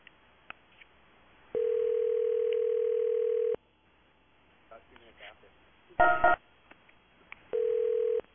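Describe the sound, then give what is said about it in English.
A steady, loud telephone dial tone hums for about two seconds, followed by quieter dialing clicks and beeps, a short harsh burst, then the tone briefly returns. “To the phone.”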